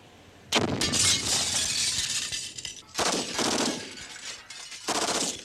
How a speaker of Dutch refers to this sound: Direct na de explosie en een korte schotenwisseling was alles afgelopen.